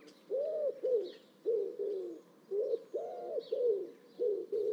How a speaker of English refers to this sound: So more and more people can hear wood pigeons. And it's a deep lowing call. The bird barely opens its beak to sing because the noise comes from within its chest cavity. And I find that it's the rhythm of the wood pigeon song that really picks it out.